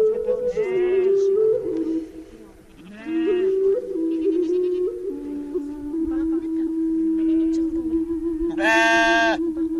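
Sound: sheep bleating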